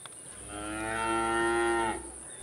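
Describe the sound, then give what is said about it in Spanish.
A single long cow moo, steady and fairly loud, rising in from a faint start and cutting off after about a second and a half, with no voices around it. “la madre de Jack le sugirió que vendiera su vaca premiada”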